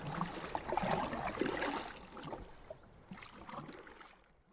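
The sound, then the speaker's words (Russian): A man rows a boat across the water to a neighbouring island, with splashing and sloshing strokes in an uneven rhythm that gradually fade and quieten toward the end. No voices are heard. “Сел лентяй в лодку и отправился на соседний остров.”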